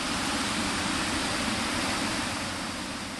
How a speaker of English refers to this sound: Yet, all those miles and all that water diverted, the river here at Khotri, in the southern part of Sindh, is running at what authorities call exceptionally high flood waters. You can hear the roar of the water as it passes through this barrage.